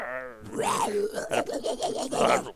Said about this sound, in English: It's at the end of every episode of Paleo Bites. Just the Carnotaurus roar from Dinosaur.